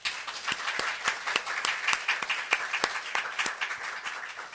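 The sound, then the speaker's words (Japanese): An audience at a church worship service applauding in thanks to the Lord, many hands clapping in a dense, continuous wash with sharper individual claps standing out throughout. No voices are heard over it. “それでは、ご臨在の主に感謝の拍手をしてまいりましょう。”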